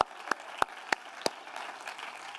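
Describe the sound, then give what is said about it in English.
An audience claps in praise to the Lord: four sharp, evenly spaced hand claps ring out, then give way to a softer, scattered patter of clapping. No one speaks. “I'll give the Lord a hand clap of praise.”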